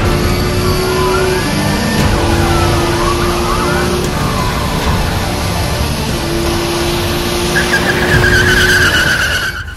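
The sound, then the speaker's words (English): A car engine roars loudly and steadily while tires squeal and screech in repeated sweeping skids, a busy, chaotic driving scene lasting the whole stretch with no talking. “Want to see my car?”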